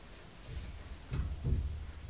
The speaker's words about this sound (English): That sounds like Uncle Brian next door, banging. He's got his hammer and he's going bang, bang, bang, bang.